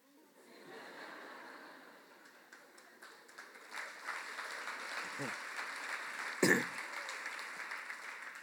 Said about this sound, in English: It's nice that you applaud for that and that you abuse me for my indiscretion because I've got a sentence for you.